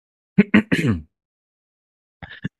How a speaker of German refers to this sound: Oh, fuck. Ich hab meinen eigenen Räuspern verschluckt.